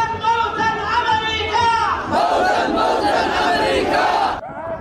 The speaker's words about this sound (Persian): صدای مراسم رژه شبه نظامیان حوثی در استان عمران یمن پس از اعلام تشکیل این ائتلاف.